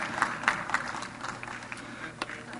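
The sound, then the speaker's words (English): An audience claps for fasting in a dense, steady patter of many hands, with a few sharper claps standing out, lasting a couple of seconds at a moderate level without any talking. “Oh yeah, you can clap for fasting.”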